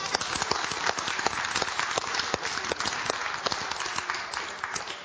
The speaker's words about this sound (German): Sie hat es auch geschafft, habt ihr gemerkt. Ein Applaus!